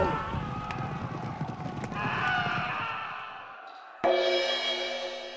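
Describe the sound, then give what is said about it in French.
A dense clatter of hooves stamping and shuffling fills the first few seconds, then a sharp, loud whinny cuts in and rings out to the end. “Le jour se lève, les chevaux piaffent, les pas des hommes martèlent le sol.”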